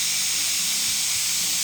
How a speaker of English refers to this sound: Our 20 minutes is up on our pressure cooker, so I'm going to release the steam and take it out of the pressure. And we're going to see how they look.